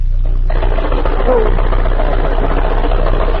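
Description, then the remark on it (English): A water pipe knocks in a rapid, continuous mechanical rattle with a low droning hum, starting abruptly after a brief moment and staying loud and steady throughout. “It was the water pipe knocking.”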